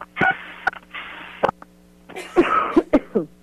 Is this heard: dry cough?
yes